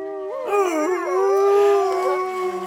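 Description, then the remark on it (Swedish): A wolf howls in long, wavering, tonal cries, with several pitch lines rising and falling together as if more than one voice joins in, steady and fairly loud for nearly three seconds. “vilken som var jag och vargen ja, där?”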